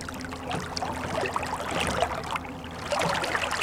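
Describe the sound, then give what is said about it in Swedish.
Gentle water lapping and clucking against a moored boat by a jetty, soft irregular splashes and gurgles continuing steadily, with a low hum underneath and no voices. “Och det är ju perfekt strand, brygg och båtläsning därav. Kluckljudet som låter så härligt.”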